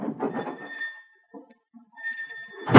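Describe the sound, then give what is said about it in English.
A door creaks with a thin, squealing tone, then slams shut with a loud thud right at the end. No one speaks. “There's the door. Take your engine part and get out.”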